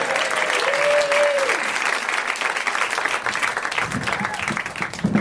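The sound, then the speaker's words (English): A crowd applauds steadily for several seconds for the person running the show, a dense wash of many hands clapping, with a brief whistle or cheer near the start and some voices rising toward the end. “Let's have a big round of applause for the person who's not normally here running the show.”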